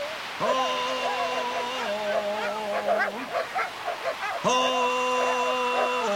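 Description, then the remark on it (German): Dogs bark and yip in a quick, excited cluster, partly drowned by a loud, steady, horn-like tone that holds, breaks off, then sounds again near the end. “Die Hunde haben dann den Applaus.”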